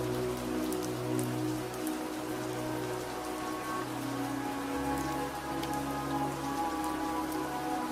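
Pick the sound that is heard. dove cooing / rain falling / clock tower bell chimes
rain falling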